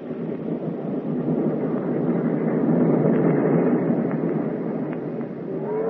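A steady, dense rumbling hum of train wheels running over rails, even in loudness throughout, with a faint tonal note of the train's whistle rising out of the noise toward the end.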